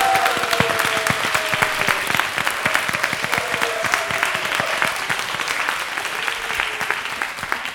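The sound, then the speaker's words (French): A studio audience claps steadily for several seconds to show listeners that more than three people are in the studio, a dense, sustained patter of many hands at an even loudness, with faint murmuring voices underneath. “d'abord j'aimerais que vous prouviez à nos auditeurs que nous ne sommes pas trois dans un studio, mais un peu plus nombreux en vous manifestant simplement, en nous disant oui, nous sommes là, ou en applaudissant, comme vous voudrez.”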